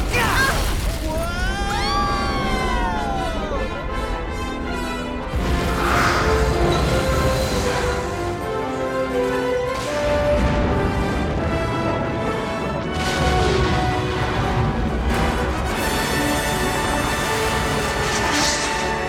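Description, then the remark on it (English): Heavy cannon fire and the crashing explosions of a barge being destroyed burst through a loud, chaotic battle din, with booming hits recurring over a dense, continuous roar of sound and occasional voices. “Once that cannon fires, this barge is a goner.”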